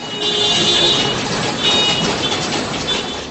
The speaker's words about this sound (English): A coordinated campaign to lean on your car horn and bang pots and pans out of people's windows